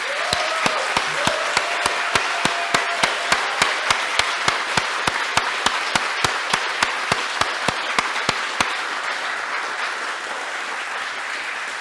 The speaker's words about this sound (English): I would like to hear a big round of applause for all the people who spent their free time coming here to build this.